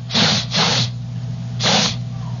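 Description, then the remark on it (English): Three sharp, breathy sniffs through the nose, two in quick succession and then a third after a short pause, over a low steady hum with no talking. “I'm sniffing the air.”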